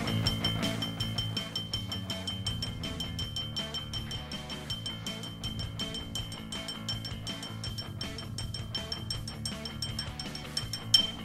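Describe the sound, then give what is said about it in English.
A pencil, played by radio host Bob Valvano on his ESPN 680 / 105.7 radio show, taps rapidly and steadily on a drinking glass for about eleven seconds, a dense run of bright, ringing clinks over a low background hum, with one sharper tap near the end. “ESPN Orchestra with your host, Bob Valvano, on the pencil and the glass.”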